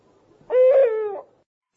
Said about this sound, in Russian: и ухнул филин вдруг тревожно, ворча на утренний рассвет.